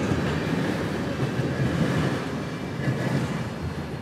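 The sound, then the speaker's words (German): A passenger train on the line connecting New York City with Toronto rumbles steadily along railway tracks, a continuous roar with faint rhythmic clatter from the wheels throughout, no voices. “Wer den Zug, der New York City mit Toronto verbindet, in Utica verlässt, hat am Bahnhof genau zwei Möglichkeiten, um weiterzukommen.”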